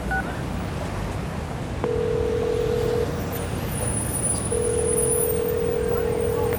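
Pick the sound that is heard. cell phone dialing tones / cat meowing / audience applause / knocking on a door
cell phone dialing tones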